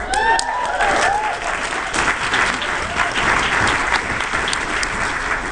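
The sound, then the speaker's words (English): Sustained audience applause, a dense wash of many hands clapping at steady loudness throughout, with a few whoops and cheers rising over it near the start. “From the enthusiasm of the crowd, I see that I really don't need to go into how awesome these books are.”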